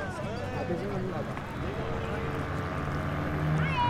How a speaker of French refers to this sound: J'arrive à la plage et on voit toutes les pirogues. C'est très gros le fleuve Congo, on va pas passer des heures à nager comme ça. Quand je monte sur la pirogue, le conducteur est à l'arrière avec un moteur. On part traverser.